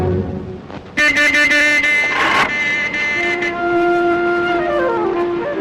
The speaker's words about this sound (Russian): Чего вы тут вертитесь? Идите, идите отсюда. Видите, тут машины ходят.